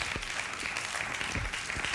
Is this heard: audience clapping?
yes